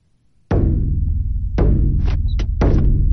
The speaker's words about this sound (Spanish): Por favor, entregad vuestros libros sobre evolucionismo a Willy mientras yo toco este tambor funesto.